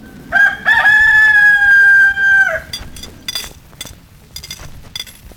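A rooster crows once, loud, a long drawn-out call lasting over two seconds, followed by quieter scattered clucks and rustling.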